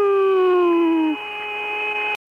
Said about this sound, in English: But just as they approached the far side of the moon, the crew heard strange music. And that music even sounds outer spacey, doesn't it? You hear that? That whistling sound?